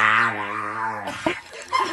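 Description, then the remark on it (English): A dog, prompted to say hello, lets out a drawn-out, tonal vocalization that sounds almost like a spoken "hello," held for about a second, then followed by a few short, rough sounds, fairly loud. “So thus far, but really, listen to this dog.”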